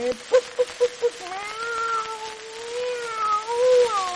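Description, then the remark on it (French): A few quick soft taps, then a person imitates a cat with a long, drawn-out, wavering meow that rises and falls, fairly loud, with no other talking. “Un chat.”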